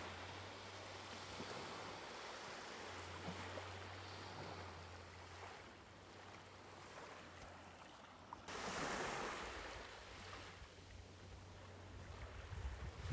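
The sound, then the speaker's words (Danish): A steady, hollow rushing roar like sea surf heard in a conch shell, swelling louder partway through, with a low droning hum underneath and no voices. “og lyden af havets brusen i konkylen.”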